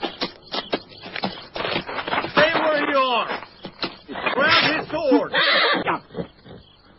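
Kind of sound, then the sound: animal, horse neighing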